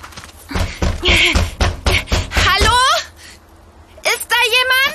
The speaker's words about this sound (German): lass uns ganz laut dagegen klopfen und rufen.